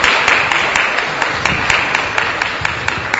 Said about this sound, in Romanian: Și noi mulțumim. Părinte, aplauze.